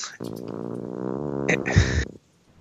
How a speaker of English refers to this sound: I'm not even going to acknowledge the noise that keeps happening because it's just I can't. My cat's growling at the other cat. Oh, tell your cat that the cat's growling sounds like. You're farting on the podcast. It really, really does.